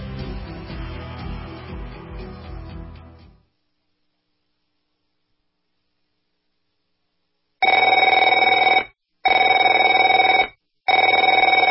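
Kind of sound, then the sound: household object, telephone ringing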